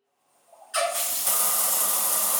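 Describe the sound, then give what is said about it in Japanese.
A shower sprays hot water steadily after a quiet start, rinsing shampoo from a person's head, starting with the left side. The broad, hissing rush begins abruptly, then holds at an even, fairly loud level with a bright splashing texture and no voices. “シャワーのお湯で頭をゆすいでいきますね。”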